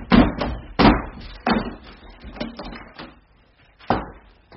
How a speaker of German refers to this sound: wir müssen die Türe einschlagen. Ich übernehme die Verantwortung.